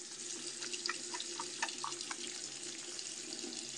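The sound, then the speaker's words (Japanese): A tap runs steadily into a sink while soft, wet squishing sounds of face wash being lathered come in short bursts during the first half, with no voices. “泡立てる音ちょっとエッチかもしれない。”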